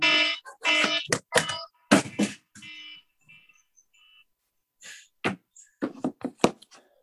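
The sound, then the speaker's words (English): A cell phone rings with a series of bright, electronic tonal bursts in an uneven rhythm, broken by brief pauses and a few sharp clicks, with no one speaking. “My stupid cell phones.”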